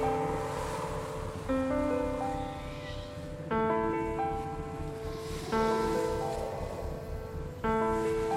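Soft, steady rushing of sea water at night, a continuous hiss of surf lying beneath slow, sustained musical chords that swell in about every two seconds.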